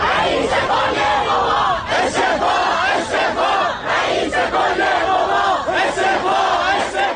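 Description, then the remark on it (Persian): A large crowd of protesters in Tehran, notably at universities, chants loudly in unison after the downing of a passenger plane. Voices rise and fall in a steady rhythmic cadence with shouted bursts, sustained throughout without pause. “اما سپس در پی فشارها مجبور شد مسئولیت سرنگونی هواپیما را بر عهده بگیرد و پس از آن اعتراض هایی در برخی منطقه تهران به ویژه دانشگاه ها شکل گرفت.”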